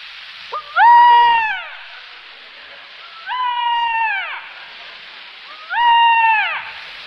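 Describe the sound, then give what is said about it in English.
A voice imitates a peacock's call three times, each a loud, wailing, strained cry rising then falling, spaced a couple of seconds apart with a faint hiss between. “Next, the peacock, one of the most beautiful strutting birds of all.”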